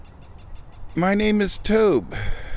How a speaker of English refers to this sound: What was that? Birds.